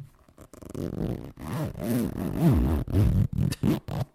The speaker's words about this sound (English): It's my favourite bit when I listen to these episodes, is the noise of the zip.